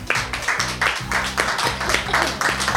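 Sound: group applauding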